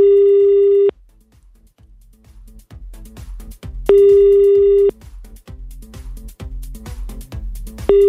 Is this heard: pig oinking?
no